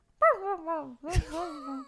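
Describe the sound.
A person imitates a dog's noises while it sleeps with two drawn-out, whiny groans, the second opening with a rough, breathy burst. The voice is fairly loud.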